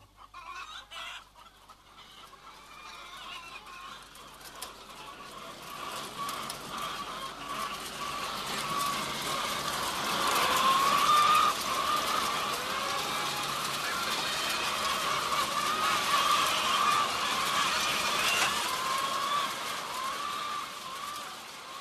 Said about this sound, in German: Dann gehe ich also mit dem Mikrofon in eine Batterie rein, wo 5000 Hühner sind. Und ich kriege durch diese Klangmasse, durch diese gedrängten Kreaturen, die dort schreien und fressen und gackern in ihrer Massenhaftigkeit,